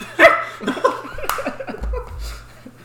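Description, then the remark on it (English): A person mimics a dog barking with a few short, sharp, yappy vocal bursts, followed by quieter breathy sounds and a low hum. “For my loyal listeners, I've been told multiple times if I don't bark at least once in each episode that they won't listen.”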